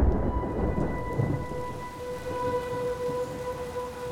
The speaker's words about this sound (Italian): Questo racconto parte con una tempesta. Quella tempesta che abbiamo imparato a conoscere come tempesta Vaia. Fu una tempesta di vento e pioggia che investì ampie zone delle Alpi orientali fra il 20 e il 30 ottobre del 2018.